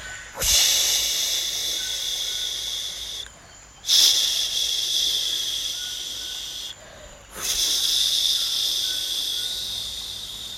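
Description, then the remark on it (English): Voices imitate the flowing Pahang River in the Malay Peninsula with three long, breathy shushing hisses, each lasting a few seconds with brief pauses between them, steady and fairly loud. “Everyone at home, make the sounds of the river.”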